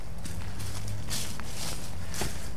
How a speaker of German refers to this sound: Man hört noch immer das Laub rascheln, aber jetzt ist schon ziemlich frostiger Winter.